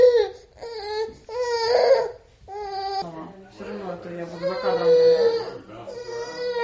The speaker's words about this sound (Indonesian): Aplikasi itu mudah digunakan. Dekatkan telepon ke bayi yang menangis dan tunggu sampai aplikasi itu tuntas menyimak tangisannya dan muncul dengan kemungkinan informasi.